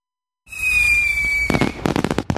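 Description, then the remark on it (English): A whistling firework rocket streaks upward with a steady high whine, then a rapid burst of sharp crackling explosions follows, loud, with no voices present. “Many July 4th fireworks exhibits are canceled this year.”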